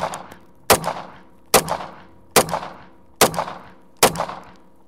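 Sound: gunshots fired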